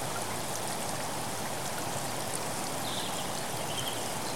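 A steady, full rush of falling water roars continuously with no pauses, a dense hiss of a waterfall pouring onto rocks in a natural setting, with no voices present.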